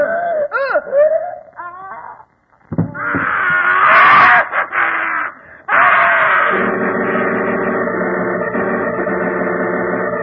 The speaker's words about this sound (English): Scream? Yes, I was in bed when it came. Positively ghastly, too. Seemed to come from Uncle Andrew's study.